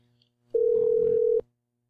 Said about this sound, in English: Oh, no. That sound there means the patient hung up.